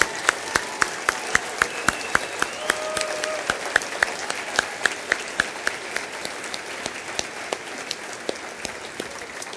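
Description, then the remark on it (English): A gathering applauds the mothers on Mother's Day, steady overlapping claps with a few sharp, louder claps standing out in a regular rhythm, sustained for several seconds without talk. “Before you clap for the mothers, we're going to have all the moms.”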